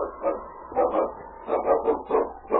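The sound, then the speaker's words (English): A dog named King barks in a quick, uneven run of sharp yaps, about eight in under three seconds, fairly loud with no voices over it. “My dog will have us on their trail in no time. What's the matter with King?”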